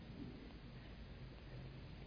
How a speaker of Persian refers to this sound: آمد یک تق و توق و سر و صدایم راه انداخت و برقی زد و رعدی آمد. شما میگید بعد خودشه دیگه، الان بارون میاد.